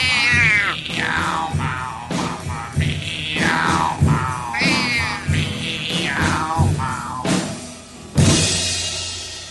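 cat meowing

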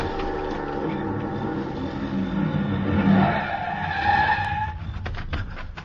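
car approaching fast

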